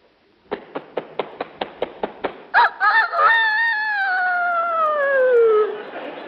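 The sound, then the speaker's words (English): A human voice imitates a year-old rooster crowing: about nine quick clucking taps, then a loud, drawn-out crow that starts with a few choppy bursts and slowly slides downward before fading. “Now a year old rooster.”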